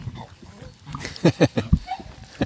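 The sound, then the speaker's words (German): A dog lets out a quick run of yelping, cackling bursts that sound like a hyena's laugh, followed by one last short yip. “Der Hund hat die Wurst gerochen, glaube ich.”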